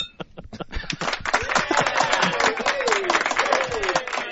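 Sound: clapping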